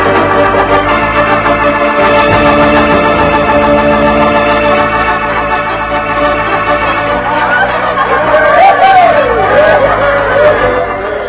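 crowd chatter

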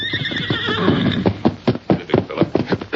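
horse approaching

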